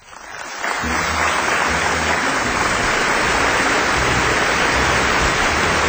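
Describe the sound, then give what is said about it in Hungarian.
A crowd breaks into applause that swells within the first second, then holds as a dense, steady wash of clapping at full strength with no voices on top. “Oly jól esik ez az őszinte taps.”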